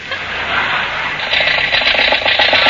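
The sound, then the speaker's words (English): A car engine runs roughly and loudly, its steady drone breaking into uneven, pulsing chugs in the second half as it starts to sputter because the car is running out of gas, with no one speaking. “Now you've done it, we've run out of gas.”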